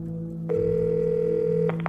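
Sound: telephone call ringing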